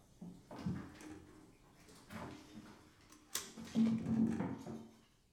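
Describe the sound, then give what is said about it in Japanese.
A chair backrest tilts back with a few quiet mechanical clunks and creaks spread over several seconds, ending in a longer grinding creak, as the chair is reclined with someone seated in it. No one speaks. “そのまま椅子の背もたれを倒すからな。”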